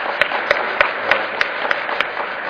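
Audience applause: a dense, steady patter of many hands clapping, with a few sharper claps standing out at a regular beat throughout. No one speaks over it.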